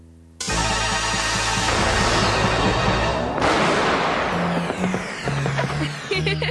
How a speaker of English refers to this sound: Oh, Prince Vince, I like the fireworks even better than the balloons.